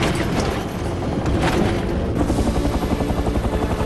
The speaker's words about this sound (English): The helicopter's taillight flashes as it approaches a ship.